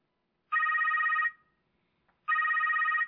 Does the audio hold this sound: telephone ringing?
yes